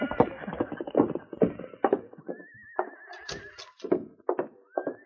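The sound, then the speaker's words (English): Hoofbeats of the horse Blackie clip-clop in a steady, uneven rhythm as Sergeant Preston rides it to the constable's office in Selkirk. The horse lets out a high, wavering whinny midway, then a shorter neigh near the end. “Sergeant Preston mounted his horse, Blackie, and with King, rode to the constable's office.”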